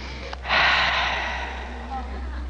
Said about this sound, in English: Ah, the west, the warm sun and the wonderful air. Just let me take a deep breath of this air. Is that ever keen and good? I think I'll have another go at it.